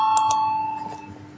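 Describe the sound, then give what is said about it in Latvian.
A parliament voting bell rings with a steady, bright metallic tone, a couple of sharp strikes at the start, then a sustained ring that slowly fades over about a second and a half. It is rung to call a vote on proposal 9 of the Union of Greens and Farmers faction. “Lūdzu zvanu, balsosim par 9. zaļo un zemnieku savienības frakcijas priekšlikumu.”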